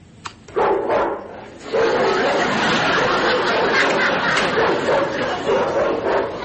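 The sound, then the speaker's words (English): A recorded dog barking plays from a small electronic 'Save Your Home' burglar alarm system, tinny and band-limited, a steady run of barks and growls lasting several seconds, with faint chatter in the background. “This thing gives you all the protection of a real killer dog.”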